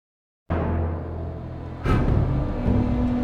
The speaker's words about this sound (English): In this war, San Francisco's tanks look more like Tonka trucks. The dump trucks line up along the beach. A machine with a huge scoop at the end fills each one up with sand. Then they turn around and head south in an orderly procession.